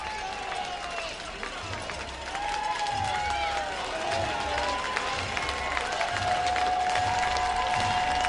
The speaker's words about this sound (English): crowd reaches a fever pitch once more for the Threadbats.